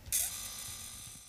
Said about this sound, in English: Can you see what it is yet? I can't believe this. You've got a photograph printer in your hand.